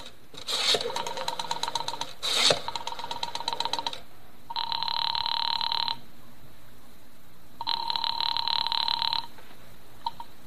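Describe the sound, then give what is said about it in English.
A telephone being dialed to call the time service, with a couple of sharp mechanical clicks amid a buzzing tone, followed by two steady, evenly spaced ringing bursts on the line, fairly loud with no voices. “Morris, knowing how foolish it was, knowing it, went to the phone and dialed.”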